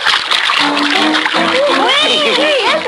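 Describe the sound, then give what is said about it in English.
Loud, continuous splashing and churning of water as Crazy Quilt swims vigorously, using his tail to propel his riders, with voices calling out over the noise. “He's using his tail to propel us.”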